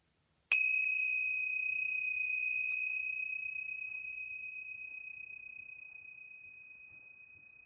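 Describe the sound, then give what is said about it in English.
A single bright strike of tingsha bells, their high, pure ring sustaining and slowly fading over several seconds, clear with no voices. “I'm just going to go ahead and ring the tincture bells to clear out any lower energies and create a pure sacred space for our channeling today.”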